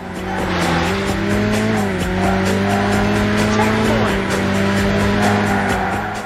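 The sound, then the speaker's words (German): Cars in a racing video game speed at full throttle along the track, dodging road traffic, engines droning steadily at high revs while tires squeal, a loud, continuous stretch of arcade-style driving noise with pitch shifts as the cars accelerate and turn. “Wenn man erstmal angefangen hat, mit Vollgas auf die Strecke zu gehen und dabei immer nur knapp dem Verkehr ausweicht, dann fängt das Herz automatisch an zu rasen.”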